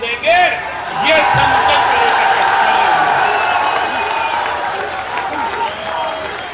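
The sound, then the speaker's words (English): A huge political rally crowd of opposition leader Narendra Modi roars and cheers in a sustained, frenzied wave of applause and shouting, loud and dense throughout, with whistles and whoops rising above the din. “There's the opposition party, whose firebrand leader Narendra Modi whips up massive crowds into a frenzy.”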